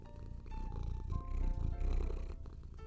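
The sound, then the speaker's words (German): A tomcat on a sofa purrs loudly and steadily into the microphone, a low rumbling vibration that swells in waves without pause, with no one speaking. “Der hier schön laut ins Mikrofon schnurrt.”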